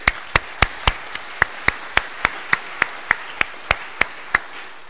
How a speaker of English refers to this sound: I've been told with David it's better to clap and welcome him before the sermon, as you're often struggling at the end of it.